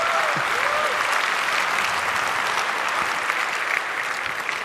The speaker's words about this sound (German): Applaus für Teleklinik.